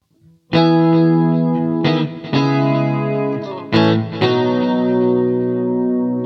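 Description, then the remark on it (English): Full chords strummed alone on a Stratocaster electric guitar with no distortion, about five struck chords ringing into each other with a shimmering chorus and delay wash. The tone is clean and fairly loud, with no voices. “And therefore, it's not going to have any distortion on it, but I will have chorus on it and some delay like this.”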